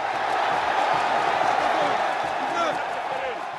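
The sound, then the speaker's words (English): A crowd of locals cheers at a football match in Gitega where President Nkurunziza is playing, a steady, dense roar of many voices that holds at the same loudness for the whole few seconds, with no single voice standing out. “They've become his personal cheering squad, celebrating every time he handles the ball.”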